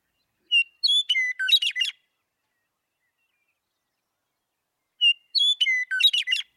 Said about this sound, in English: And I want to play first one of the most iconic sounds of the prairie in the Western Meadowlark.